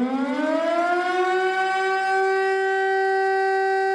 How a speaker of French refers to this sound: Cette histoire commence le 11 janvier 1993, quand à 4h du matin, à Prévessin dans l'Ain, tout près de la frontière suisse, la sirène incendie se déclenche.